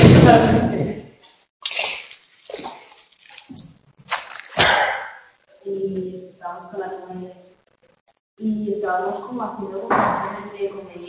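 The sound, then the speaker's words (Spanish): A door is closed with a few sharp thuds and clunks in the first seconds, followed by people talking. “Voy a cerrar la puerta y ahora vuelvo.”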